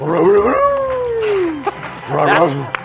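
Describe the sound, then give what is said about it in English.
A person's voice imitates the cartoon dog Scooby-Doo's howl, a long wavering tone that slides downward, followed by a shorter yelping vocal burst, loud. “He does a great Scooby, too.”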